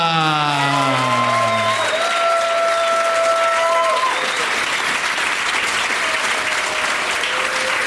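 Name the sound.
audience applause and cheering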